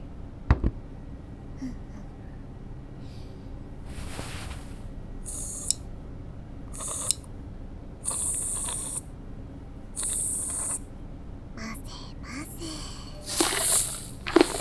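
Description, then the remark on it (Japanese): Fizzing carbonated foam from Earth, used to clean the ears, crackles in a series of short, soft bursts of bright hiss with faint popping between them, each burst fading before the next; no one speaks. “じゃあ、早速使っていくのは怖いと思うから、まずは地球の炭酸泡でお耳をきれいきれいにしていくわね。”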